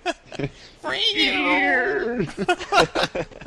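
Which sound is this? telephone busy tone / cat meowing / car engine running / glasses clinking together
cat meowing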